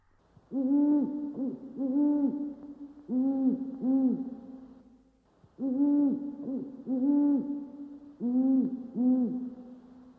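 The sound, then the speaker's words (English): An owl hoots repeatedly at night in clear, low, resonant calls, grouped in short runs of two or three with a brief pause midway. Steady, with no talking. “Night owls.”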